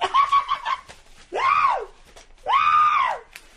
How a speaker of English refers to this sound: God, you're going to start screaming in here like you're in the middle of some kind of a coon hunt.